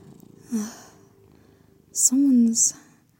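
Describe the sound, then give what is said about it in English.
A cat purrs softly, a low steady rumble, then lets out a brief, louder chirping vocalization near the end with breathy, hissing edges. “Did I break my kitty?”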